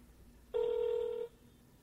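A cell phone call placed during a church service rings once: a single steady electronic tone lasting under a second, clear and fairly loud, with no one speaking.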